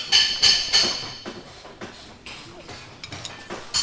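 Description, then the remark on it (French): A hammer strikes a brake drum that is being removed to check the brake linings, with ringing metallic clanks, three loud quick blows at first, then a series of lighter, irregular taps, with no talking. “Bon, c'est le marteau, hein.”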